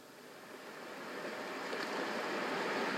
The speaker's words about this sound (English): …. Natural White Noise. …. The best of relaxing. Playing.